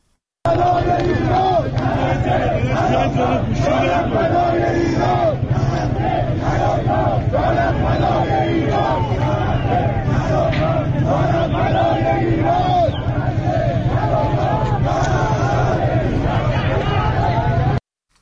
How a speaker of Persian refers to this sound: در ویدیوهای دریافتی از بازار میوه و تره‌بار تهران، معترضان شعار می‌دهند نه غزه نه لبنان، جانم فدای ایران.